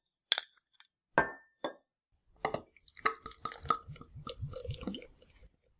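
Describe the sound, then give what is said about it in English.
A few sharp bottle-cap pops and glassy clinks as a couple of bottles of a medium-bodied 8.2% beer are opened, followed by a longer stretch of fizzing and gurgling as they are poured, with no one talking. “Well, it sounds delicious, so let's open a couple bottles, huh?”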